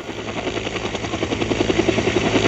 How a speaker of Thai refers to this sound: มาขึ้นเฮลิคอปเตอร์ขนาด6ที่นั่งซึ่งถูกออกแบบไว้บินชมภูเขาโดยเฉพาะ